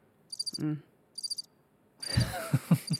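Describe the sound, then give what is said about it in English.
Crickets chirp, played as a sound effect from a soundboard button, in two short, pulsing bursts separated by a pause, then the high trilling continues faintly beneath people talking loudly. “Crickets is Oh, this one on the next to it. There we go.”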